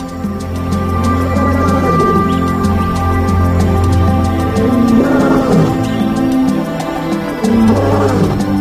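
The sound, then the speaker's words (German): Deep, rumbling lion roars rise and fade several times, loud, with sustained low growling between them and no voices. “Er führt ein kleines Rudel von 6 Löwen an.”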